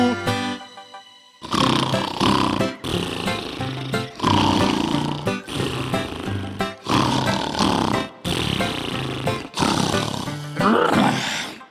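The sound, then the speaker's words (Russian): A voice imitates bears snoring in their den in winter: loud, raspy, growling snores repeat about eight times in a steady rhythm, each lasting over a second and separated by brief pauses, after a quieter tonal opening. “Поют они зимой в берлоге песни. Их песни называются храпесни.”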